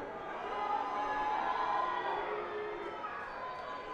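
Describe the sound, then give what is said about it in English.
A large audience at the end of a show roars with a sustained, loud wash of booing voices that holds steady for several seconds, dense and continuous with no single voice standing out. “But you know, maybe they're not booing, they're yelling, Uke. Uke. Uke.”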